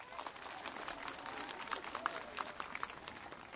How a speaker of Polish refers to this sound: I dla nas wszystkich i dla siebie nawzajem raz jeszcze gorące brawa.